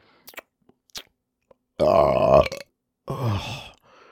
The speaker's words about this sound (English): Even the burps of you taste good.